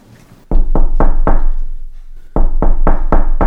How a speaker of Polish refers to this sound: Następnie zmierza ku szafie, ale wtedy słyszy pukanie do drzwi.